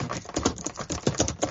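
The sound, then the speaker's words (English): A woman types rapidly on a keyboard, a string of sharp clicky keystrokes in an uneven rhythm, fairly loud and with no voices over it. “She's really angry at us, so she's typing.”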